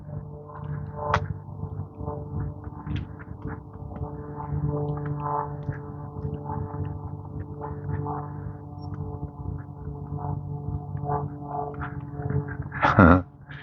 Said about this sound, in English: That airplane is a long way away, and I can still hear it.